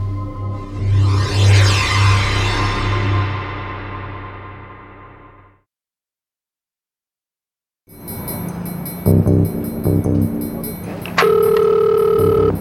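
A phone call goes out: after a stretch of rumbling noise and a brief silence, a steady electronic ringing tone sounds over a faint line hiss, fairly loud.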